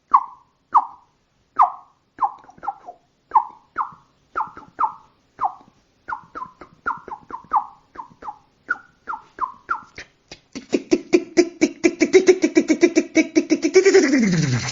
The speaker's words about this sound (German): Und damit verabschiedet sich die Amsel.